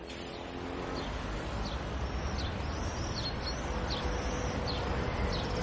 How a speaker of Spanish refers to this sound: Eso es el Jardín Botánico, en el Paso del Prado hay un mirlo, hay una tórtola, un verdecillo, y de fondo se escucha un run-run.